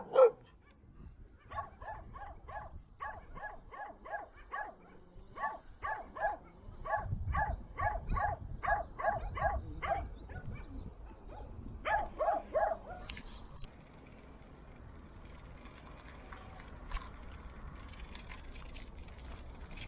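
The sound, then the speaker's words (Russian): Dogs bark in rapid repeated bursts, several voices overlapping, fairly loud, as a battery-powered device is demonstrated on them, with brief pauses between volleys before the barking fades into quieter background noise. “Теперь покажу, как это все работает на собаках.”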